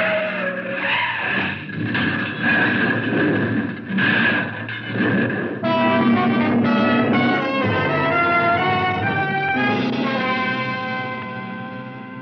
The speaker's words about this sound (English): He was getting away when he hit that bad curve, doing 70. Then there was nothing on earth that could save him as his car skidded over the steep embankment.